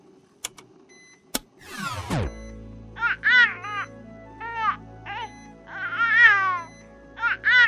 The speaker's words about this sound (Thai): เมย์ได้ยินเสียงลูกร้องไหม